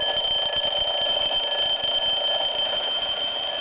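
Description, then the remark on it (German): A classic mechanical alarm clock, with a bell on top struck by a clapper, rings continuously and loudly, a harsh metallic clatter of rapid strikes that never pauses, with no voices. “Das ist dieser klassische Wecker, wie man immer noch so vor Augen hat, wenn irgendwo einer gezeichnet wird, mit dieser Glocke oben drauf, wo dann ein Klöppel drauf schlägt.”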